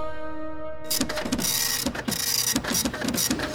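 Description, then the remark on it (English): A steady electronic tone gives way to a fax machine, the astrotelefaxer, printing the newest telemetry data from the Pluto Explorer: a loud, rhythmic mechanical chatter with quick repeating clicks and a whirring hiss, and no voices. “It just came through on the astrotelefaxer a moment ago.”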